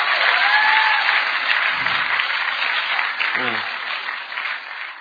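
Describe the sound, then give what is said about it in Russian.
Sustained audience applause, a dense steady patter of many hands clapping for about five seconds, loud throughout and easing off slightly toward the end, with no one speaking over it. “Поэтому иногда я хочу попросить тебя делать аплодисменты, потому что я боюсь.”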